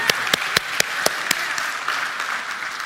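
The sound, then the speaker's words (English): A church audience applauds on Palm Sunday to celebrate Jesus. The applause is a dense, steady wash, with a few sharp claps landing on an even beat early on before fading into general clapping. No one speaks. “Can we put our hands together and celebrate Jesus?”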